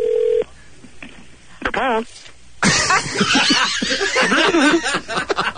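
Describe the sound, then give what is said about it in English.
A single short, steady telephone dialing tone sounds loudly at the start of a call to Nepal, then cuts off; a brief wavering vocal sound follows, and loud, busy chatter and laughter take over. “we're going to make one more call, and if this one doesn't answer, if we don't get somebody on the phone”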